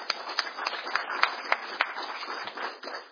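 An audience applauds steadily, a dense wash of many hands clapping with a few sharper claps standing out at a loose, regular beat. No one speaks over it.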